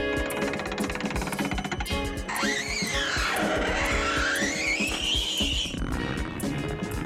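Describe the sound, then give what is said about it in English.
Cardboard being cut makes a harsh, squealing screech that bends up and down in pitch for a few seconds, rising loud over steady background music with no one talking. “That's cutting cardboard.”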